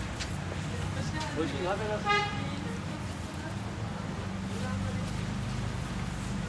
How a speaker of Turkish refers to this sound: birisi de korna çalmış, duymadık. Normaldir.